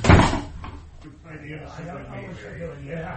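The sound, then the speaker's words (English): A door shuts with a single heavy thud right at the start, followed by a low murmur of voices talking quietly afterward. “And shut the door, sonny, and none of you are listening at the keyhole.”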